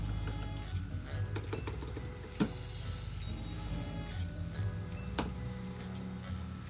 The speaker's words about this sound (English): Forgive all the loud typing. I'm doing things into the Blender typing things into the Blender menu.